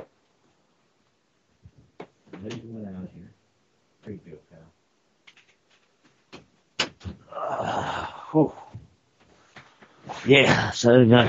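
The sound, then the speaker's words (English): A door opens and shuts to let a dog out: a few sharp latch clicks and a solid clunk, with people talking before and after and a burst of louder voices at the end. “out the door now.”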